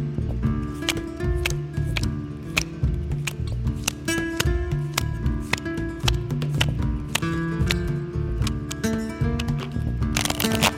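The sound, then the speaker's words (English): Crisp, irregular snaps and flicks of an Erotic Arcana card deck being shuffled, ending in a brief dense riffle, over a steady bed of soft tonal music. “Take a moment to set your intention while I shuffle the deck.”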